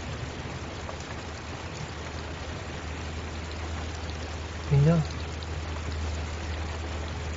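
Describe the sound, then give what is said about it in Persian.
Steady, even rain pattering on the windshield of a car stopped at a red traffic light, with a low idling hum underneath; a single short spoken word briefly cuts through near the end. “تصویر شماره یه تایمر چراغ قرمز روی شیشه یه بارون خورده یه ماشین.”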